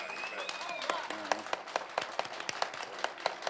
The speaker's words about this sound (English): I first saw this guitar in the hands of the great …, who, yeah, you can applaud ….